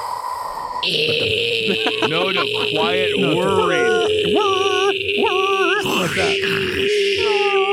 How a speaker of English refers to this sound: That was the dryer's done. I hate doing laundry.